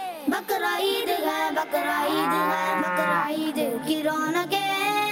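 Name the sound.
cow mooing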